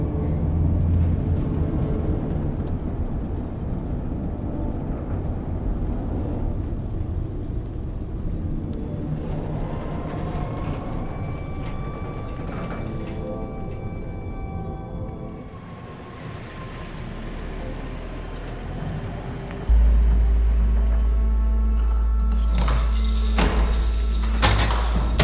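A prisoner transport vehicle drives through a car park, passing the prison's outer walls towards a large white gate that opens automatically: a steady low engine rumble with a faint whining tone midway, turning into a louder, heavier drone near the end.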